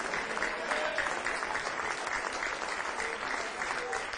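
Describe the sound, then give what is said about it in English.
An audience claps their hands to the Lord God in a steady, dense wash of applause that holds at an even loudness throughout, with faint voices mixed into the clapping. “Make your hand clap unto the Lord God.”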